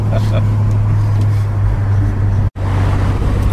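Loud, steady engine drone and road rumble from inside a moving car, continuous throughout except for a sudden momentary dropout near the end.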